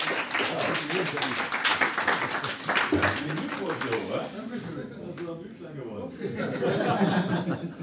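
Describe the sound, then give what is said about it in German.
A crowd breaks into loud, dense applause of many hands clapping for a few seconds, then it thins out into cheerful chatter and laughter from the audience. “Einmal Applaus für ihn. Herzlichen Glückwunsch.”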